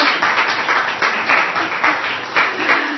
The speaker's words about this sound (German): Und ich denke, ja, das ist einen Applaus wert.